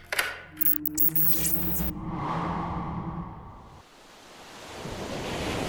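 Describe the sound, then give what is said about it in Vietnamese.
After a brief tonal, musical opening, open-sea waves of the Pacific Ocean, more than 300 km southwest of Guam, take over as a steady broad rushing wash that dips briefly and then swells again, with no voices. “Bây giờ, bạn đang ở biển Thái Bình Dương, cách đảo Guam hơn 300 km về phía tây nam.”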